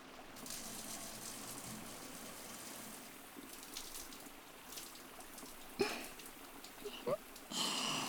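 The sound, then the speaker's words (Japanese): A shower sprays steadily with a continuous hiss of water as soap foam is rinsed off in a bath, broken by a few brief, louder splashes toward the end as the stream shifts. “シャワーが当たっただけでピクンってした。”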